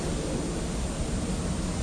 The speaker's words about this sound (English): Oh no, I think that's an aeroplane in the sky now.